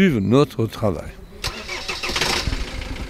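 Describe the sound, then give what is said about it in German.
A bus engine starts up: a whining, sweeping crank for about a second, then it catches with a sharp burst and settles into a loud, steady, rattling rumble. “Der Bus. Ohne den Bus ginge es nicht.”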